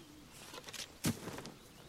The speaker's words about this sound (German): Ich höre da auch Vögel. Also es ist auf jeden Fall draußen. Genau, es ist auf jeden Fall draußen.